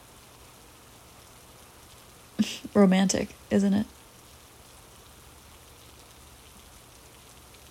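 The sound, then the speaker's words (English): Steady rain from a storm hisses evenly throughout, a soft constant wash of falling drops, with a voice briefly speaking a short phrase over it partway through. “Still dripping wet from the storm.”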